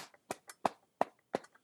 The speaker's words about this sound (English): Reach your left arm around over the right shoulder. Use the right hand to hook the left elbow and slap your trapezius. Slap down over your shoulder